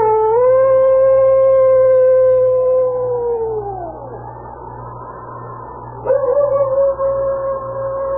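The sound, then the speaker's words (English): A long, loud, steady howl of a hungry predator that slides downward as it fades, followed after a brief pause by a second howl starting abruptly, over a low constant hum. “It was then that he threw back his head, and a long howl broke the stillness.”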